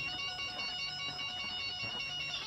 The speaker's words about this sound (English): It sounds like a French phone.